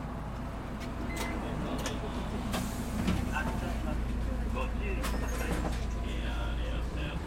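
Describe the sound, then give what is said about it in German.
Steady low engine drone inside a moving city bus, route 59 toward Ritsumeikan University in Japan, passing the Imperial Palace park and Kinkakuji, with scattered rattles and clicks from the cabin and faint, indistinct voices. “steigt in den Bus Nummer 59 in Richtung Ritsumeikan-Universität.”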